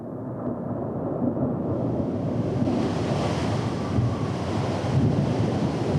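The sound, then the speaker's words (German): Rough sea surf churns continuously, mixed with gusting wind that rumbles and buffets, a dense, loud roar with no voices, swelling slightly near the end. “Und da hat er immer bei Sturm einen Fisch geangelt.”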